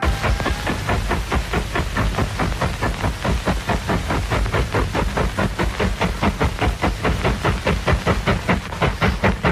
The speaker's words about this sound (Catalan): Amb una prova tècnica que es va fer l'any 1935, amb un senyor que es deia Alan Dower Balmstein, que va agafar i va filmar un tren en estèreo.